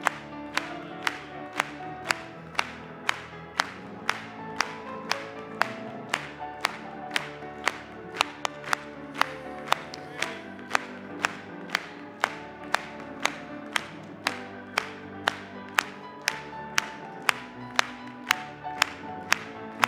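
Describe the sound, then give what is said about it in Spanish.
An audience claps for the Lord in a steady, even rhythm, about two sharp claps per second, keeping time over a hymn that plays throughout. “Vamos a aplaudirle.”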